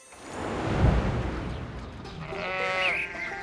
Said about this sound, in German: Bruder, wie laut kann ein Schaf muhen? Man. Da bin ich mit meinem süßen Oinken ja ein Witz. Tja, das ist Rocco, das Schaf vom Nachbar. Manchmal blökt der morgens so laut, dass es klingt, als steht er direkt in meinem Schlafzimmer.